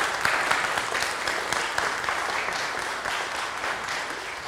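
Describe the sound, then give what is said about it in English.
A church audience applauds steadily during a morning worship service, giving three people a round of applause before they are seated, a dense, continuous wash of many hands clapping at an even loudness throughout, with no talking over it. “Before they're seated, let's all give everyone, you know, these three a round of applause here this morning.”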